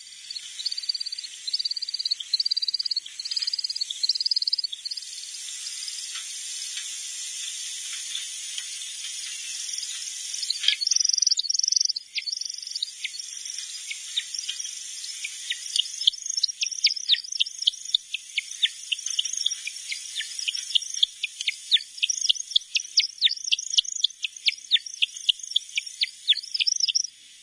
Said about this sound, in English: So you can hear the technology that allows that to be recorded so cleanly is just astonishing. Yeah, it's pretty neat. And you can really hear the high-pitched rapid sound is the wingtips, I believe.